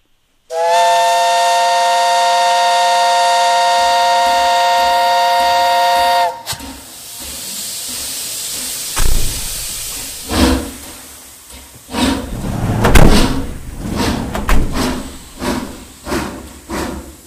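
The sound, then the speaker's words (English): A loud, steady steam whistle blows for about six seconds, then gives way to bursts of hissing steam and rumbling, chuffing noise from a locomotive. “The men in helmets driving us along with all those others, star-crossed in orange, to the railway track, to the train.”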